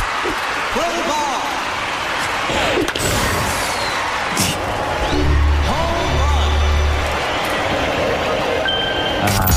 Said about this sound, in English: In fourth place, for Dave ranks the sounds of different games in Wii Sports, we go to quite a crowd-heavy baseball.